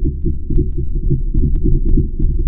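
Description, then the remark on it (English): A steady, low rumbling whoosh of lava moving beneath a volcanic crater, recorded by marine geologist Bob Ziak, like fluid surging through a pipe, dotted with faint, scattered clicks and no voices. “We can hear that flowing, like, you know, water through a pipe, in this case, magma through a tube.”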